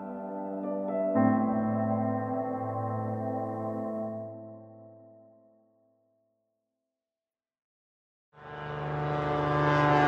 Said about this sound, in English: The seaplane that brought me here just flew away. It left me in rain and fog by a lake surrounded by spruce trees in one of the most remote parts of Alaska, north of the Arctic Circle.